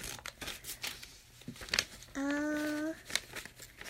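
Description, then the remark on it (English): Crinkly paper crinkles and crackles in irregular bursts of rustling, interrupted midway by a brief, steady tonal hum lasting under a second. “No, don't fall on me yet, crinkly paper.”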